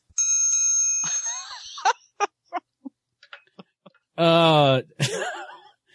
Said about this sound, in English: This is my love bell.